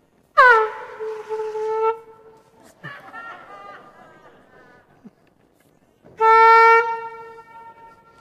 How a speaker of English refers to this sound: Some of you are looking a bit shocked. Either because I've brought an air horn and used it at church, or maybe because I've called time out in a sermon.